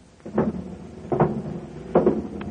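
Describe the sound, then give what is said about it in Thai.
A heavy prison cell door is opened by the jailer to free Barabbas, with three loud metallic clunks and rattles spaced under a second apart, and no one talking. “บาราบายังอยู่ในร่างวันที่เขาทำการครึ่งได้ไกลเข้ามาในวันที่สุดกำหนดตึงแล้วผู้กุมจัดแจงเปิดประตูคุกออก”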